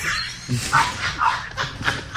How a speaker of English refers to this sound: Wow, that dog is pissed. Maybe we better settle down. He's really mad.